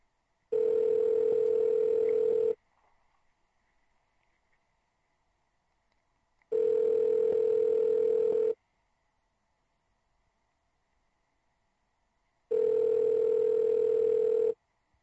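A telephone ringback tone rings three times, each steady two-second burst followed by about four seconds of near silence, loud and clear with only a faint hum between rings.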